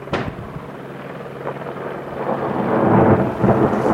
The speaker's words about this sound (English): Kind of see that one go, a little flash. But yeah, it creates quite a nice explosion, pretty good punch to the snowpack.